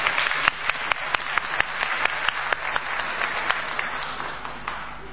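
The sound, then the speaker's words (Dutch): An audience applauds steadily at the Horen, Ruiken, Voelen quiz as a contestant from the audience is called forward, dense clapping with a few sharper, louder claps standing out, sustained throughout and fading slightly at the end. “Applaus!”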